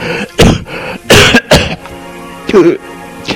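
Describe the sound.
A few short, light coughs and throat-clearing bursts come in quick succession, fairly close, followed by a brief voiced sound like a murmur or muffled vocal noise.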